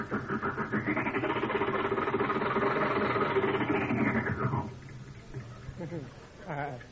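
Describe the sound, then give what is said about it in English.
The engine of an old car, set in 1922, roars loudly for several seconds as its stiff gears are shifted, its pitch swelling up and then sinking as it revs, before dropping to a low rumble while a voice speaks briefly. “Gears are a little stiff, you know. New car.”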